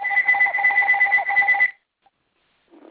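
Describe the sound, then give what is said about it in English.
A phone rings with a loud, steady electronic trill, two bright tones warbling rapidly together for nearly two seconds before cutting off, followed by silence and a faint murmur. “Your phone is ringing, somebody.”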